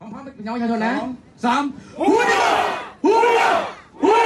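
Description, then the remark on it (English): A crowd at an airbase outside the Thai capital cheers and shouts in loud, repeated bursts, welcoming Thai Navy SEAL divers from the flooded complex rescue, voices swelling together in waves of excited whooping with brief lulls between. “Meanwhile, crowds have gathered to thank the Thai Navy SEALs who helped guide the team through the flooded complex.”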